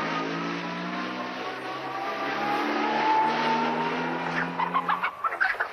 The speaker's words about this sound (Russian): Подняв клубы пыли и напугав курицу, машина уезжает.